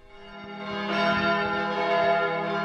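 church bells ringing

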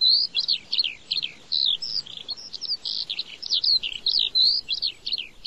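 eurasian skylark song

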